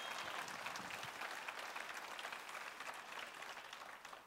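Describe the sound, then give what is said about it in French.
An audience applauds to acclaim God (Adonai) during a French-language sermon, a dense wash of many hands clapping at an even, sustained level for several seconds with no voices standing out. “Voulez-vous l'acclamer avec moi?”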